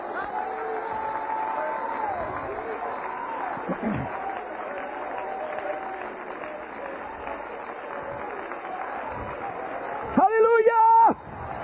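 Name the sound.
audience clapping hands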